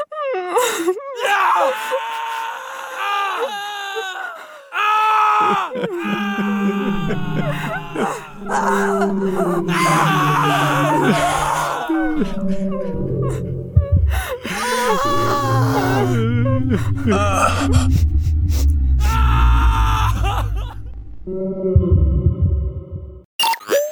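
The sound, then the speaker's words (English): Human voices groan, wail and scream in distress, rising and falling in strained cries that overlap with little pause, while a low, rumbling drone swells underneath in the second half. “And now, sounds of humans in distress while a whale swims freely in the vast deep blue.”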